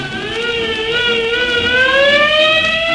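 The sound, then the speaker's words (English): A fire engine siren wails loudly and steadily, its bright, buzzy tone slowly climbing in pitch across the whole stretch, with no voices over it. “So, Alakazippity-clang, I turned myself into a fire engine!”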